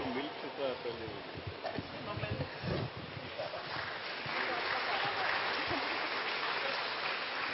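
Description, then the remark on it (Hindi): An audience at a nursing conference claps steadily as a memento is presented, a dense patter of many hands that grows fuller and louder in the second half, with a voice talking over the opening seconds. “तालियां बजाते रहिए।”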